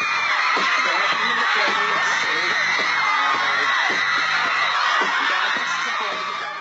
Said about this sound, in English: Screaming teenagers would pile into Times Square, either inside MTV's fishbowl-like studio or out on the street, shrieking for favorite pop stars and their videos.